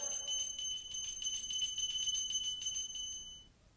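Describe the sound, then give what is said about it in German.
A small bell rings rapidly and continuously for about three seconds, its bright, shimmering tones fairly loud, then stops abruptly and leaves near silence. “Famulus, die Glocke!”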